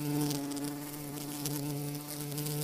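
bees buzzing

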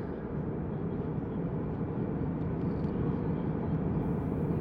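airplane cabin ambience

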